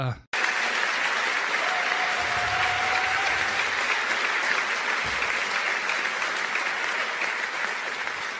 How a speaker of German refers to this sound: Ist wirklich, also da kriegst du dann Applaus in so einem Raum. Wenn einfach solche Plattitüden dann dementsprechend einfach äußerst.